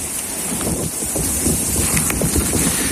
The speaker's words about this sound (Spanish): Así suena el crepitar de la lava del volcán Cumbre Vieja en La Palma, en plena erupción en septiembre de 2021.